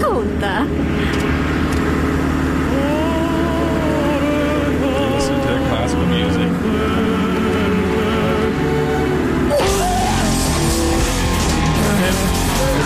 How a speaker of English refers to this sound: And they're in the car listening to classic music, but then suddenly it goes to this crazy death metal stuff. Yeah, here's the transition,